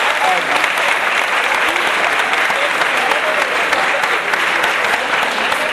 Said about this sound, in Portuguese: Primeiro, uma salva de palmas